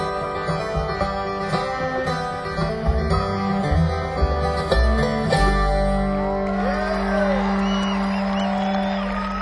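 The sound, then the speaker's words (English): A large audience cheers and whoops loudly, a dense roar of applause and shouts that swells after music fades, with scattered high yells rising above the crowd noise. “What a crowd. Good grief. This is crazy.”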